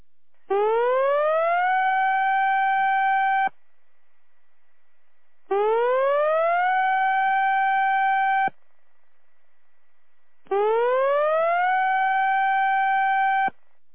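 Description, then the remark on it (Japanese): A tsunami warning siren sounds three times during a drill, each blast rising in pitch and then holding a steady wail before cutting off, with short silent pauses between. Loud and clear, no voices. “大津波警報が発表されました。海岸付近の方は高台に避難してください。これは訓練放送です。”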